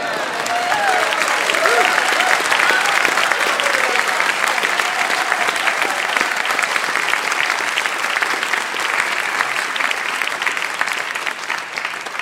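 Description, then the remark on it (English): A sustained round of applause from an audience for everybody at the end of a reading of names and towns, dense overlapping clapping that stays steady and loud for about twelve seconds with a faint murmur of voices underneath, easing only slightly at the end. “And at the very end, we'll give everybody a round of applause at that time.”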